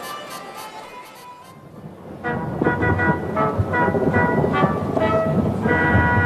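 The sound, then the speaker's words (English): Thunder rumbles in suddenly after a quiet start, a loud, low, sustained roll that swells and holds to the end, with faint tonal ringing layered over it. “That's thunder!”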